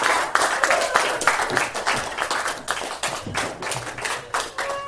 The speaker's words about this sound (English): I think the case of Jax Porter deserves another round of applause.